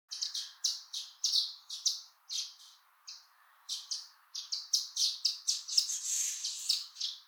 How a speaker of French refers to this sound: Elles annoncent le printemps, bien sûr que je les reconnais. Elles nichent dans les falaises de nos montagnes, ce sont les hirondelles des rochers.